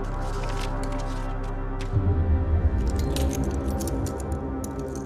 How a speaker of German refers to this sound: Er geht die Schlüssel eines Schlüsselbundes mit ledernem Anhänger durch. Auf einem ist die Nummer 807 eingeprägt.